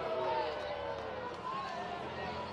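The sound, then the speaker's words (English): A home crowd at a baseball game boos steadily, presumably at Ricky Rivera after a disputed pitch clock violation call, a loud, continuous wash of voices with drawn-out low groans running through the whole stretch and no single voice standing out. “Home crowd booing, presumably at Rivera, for the gripe he had, but he might have a legitimate gripe.”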